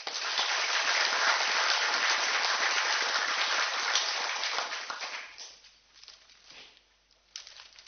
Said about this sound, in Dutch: Mag ik ook voor jou een applaus.